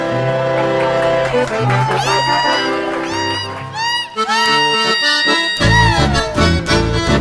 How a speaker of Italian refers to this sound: Quello che si ascolta è un sapucai. Il sapucai è una manifestazione del chamamesero. Si può gridare il sapucai come un festeggiamento, come una sfida, una rabbia o per sciogliere una grande emozione.